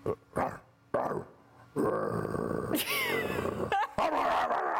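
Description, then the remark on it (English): A man's voice imitates a dog barking, a few short gruff barks followed by a sustained growling, snarling stretch, loud with no other talk. “Can you, how's that bark go again?”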